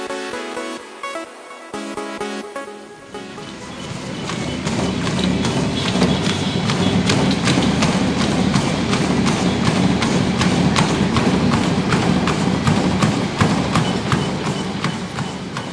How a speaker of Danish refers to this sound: Vi er nu inde i Life Club Fitnesscenter inde ved Kvickly Hørtehegn. Lige nu står vi og kigger på nogen, der løber, og nogen, der cykler, og nogen, der går. Altså, når man kigger rundt her, så er der en masse maskiner.